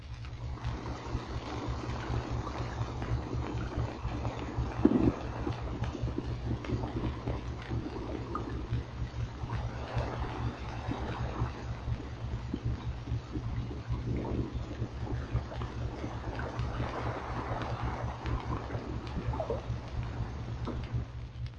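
Surf breaks rhythmically on a shore a quarter of a mile away in slow swells, a soft rushing that rises and fades every several seconds over a steady low hum of ordinary water noise and faint crackling from distant snapping shrimp. No one speaks.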